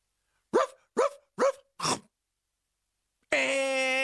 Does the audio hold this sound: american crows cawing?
no